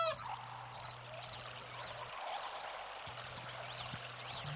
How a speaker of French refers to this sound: Il y a même l'eau aussi.